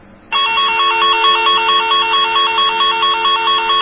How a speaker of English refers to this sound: So those are the tones from the tone generator, and you can use the trace lines